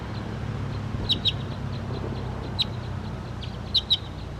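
wild bird calling

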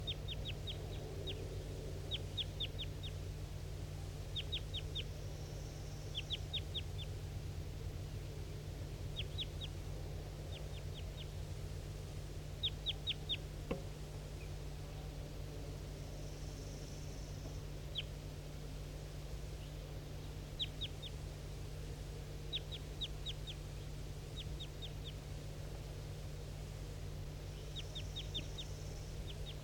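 wild bird calling

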